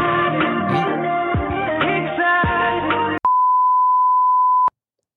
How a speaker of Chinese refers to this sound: 刚发生了什么事情？不知道。 嗯， 你的手机电话打来是不是？ 是你的， 是我的电话打来， 是你的，对。